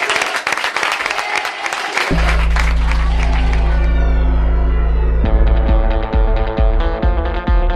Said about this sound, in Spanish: Terminamos como lo hemos recibido, con un aplauso y con una ovación para Marco Asensio.